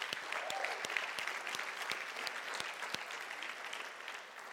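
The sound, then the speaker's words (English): A church audience claps steadily together, a dense wash of many overlapping handclaps with sharper individual claps standing out, sustained throughout and fading slightly at the end. “Can we just give God a big clap for that?”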